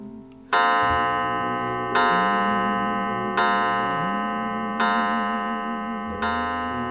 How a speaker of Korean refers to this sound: 5시를 알리는 종소리가 피아노의 선율을 멈추게 했다. 5시야, 이젠 가봐야지.